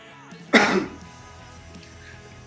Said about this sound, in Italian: appena finisce la tosse ne parliamo. Sono un po' raffreddato.